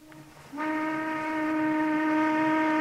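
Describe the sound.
A person imitates a steam whistle with a single loud, sustained whistling tone that starts abruptly and holds steady for a few seconds, rich in harmonics like a real whistle.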